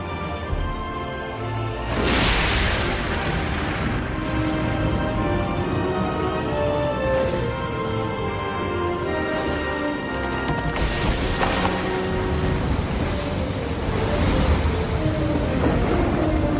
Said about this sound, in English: Oh, Lord, you have sent this storm upon him for your own good reasons.